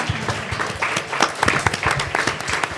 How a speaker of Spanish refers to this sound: ¿A que les vamos a dar un aplauso? Nos ponemos todos de pie para aplaudirle. ¿A que sí?